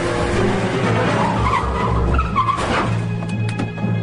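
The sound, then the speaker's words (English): Car tires screech in a long, loud skid over a roaring engine, with Balthazar Getty in the car, the squeal wavering in pitch for about four seconds with a brief rise near the middle. “Lord of the screeching tires.”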